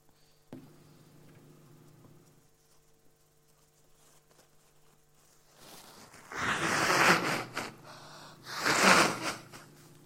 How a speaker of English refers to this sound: So I'm just going to pause for 2 seconds and just blow my nose and then we'll...